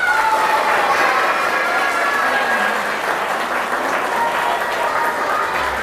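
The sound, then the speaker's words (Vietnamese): A large audience of children claps steadily and loudly for several seconds, a dense, continuous wash of applause with faint cheering tones rising through it. “Nếu các cháu thích đó thì cho một tràng vỗ tay thật lớn nào.”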